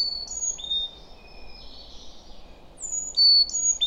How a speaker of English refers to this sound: Birds. This is what I saw every time I looked up. And each morning, I was treated to a symphony of birdsong.